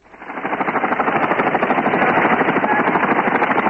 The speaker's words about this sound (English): An American helicopter leaves its base near the new airport, transporting Marines to other trouble areas.